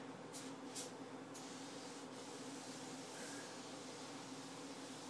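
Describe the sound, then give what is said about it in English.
A steady aerosol hiss of foam cleaner being sprayed generously to cover all surfaces completely with foam, running continuously with a few short sharper bursts near the start, moderately loud, with no talking. “Spray button, spray generously. Be sure all surfaces are completely covered with foam.”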